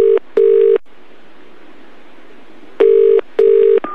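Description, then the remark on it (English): Electronic telephone keypad tones come through a phone line in two paired bursts as someone dials a pizza place, each a couple of steady beeps separated by a long pause with faint line hiss. No one speaks. “Right, he's on hold, so let's phone pizza place number two.”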